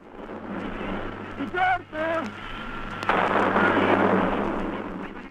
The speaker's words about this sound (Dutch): In Londen wordt het kanongebulder bij de stad via de radio opgevangen.